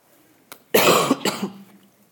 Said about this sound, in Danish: I må undskylde, hvis jeg hoster lidt.